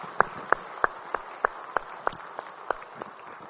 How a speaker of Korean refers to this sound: 우리 찬양 말씀 주님께 영광의 박수 올리겠습니다. 할렐루야.